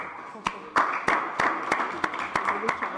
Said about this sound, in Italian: quindi un applauso e complimenti.